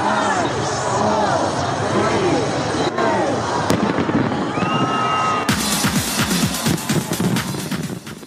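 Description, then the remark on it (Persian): Fireworks crackle and boom in a dense, continuous barrage over a noisy crowd's chatter and cheering, with sharp bursts of rapid crackling growing busier in the final seconds, at the celebration welcoming the year 2022 in Sydney, Australia. “در شهر سیدنی استرالیا با وجود ثبت بلندترین آمار ویروس کرونا با آتش‌بازی از سال 2022 استقبال شد.”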